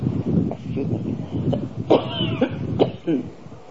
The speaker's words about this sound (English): Now maybe the truck is still going, or maybe the person has stopped coughing.